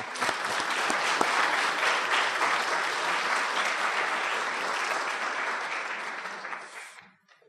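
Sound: audience applauding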